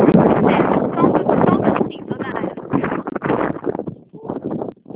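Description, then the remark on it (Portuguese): Loud, rough wind buffeting a phone microphone outdoors on a windy day during a phone call, a continuous roaring rumble that swells and dips over several seconds, with muffled voices partly buried beneath it. “Aqui está ventando, está ruim de.”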